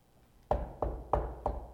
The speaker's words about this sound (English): Someone knocks on your door.